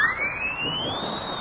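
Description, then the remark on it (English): A single loud siren blast from a horn with a siren in its mouthpiece, blown in a cafeteria: a shrill tone that sweeps steadily upward in pitch and then holds high, sustained for over a second over a rough, noisy background. “Look at this horn. It's got a siren in the mouthpiece.”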